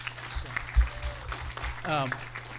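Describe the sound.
A crowd at a church service applauds steadily with a dense wash of clapping, and a single voice calls out briefly over it near the end.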